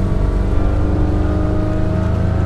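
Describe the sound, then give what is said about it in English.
A 21-foot aluminum motorboat engine drones loudly and steadily, a low rumbling throb with a faint rising pitch as the boat pulls out from a marina on King Island in the eastern California Delta near Stockton to deliver mail; no one speaks. “He takes his 21-foot aluminum boat around 60 miles,”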